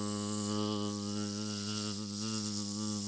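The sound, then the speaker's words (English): A person imitates a mosquito with a steady, nasal buzzing hum held for about three seconds. It is fairly loud, with a slight wobble in pitch and no other sounds. “And then I started buzzing like a mosquito there.”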